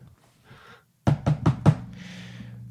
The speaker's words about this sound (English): And then I'll knock.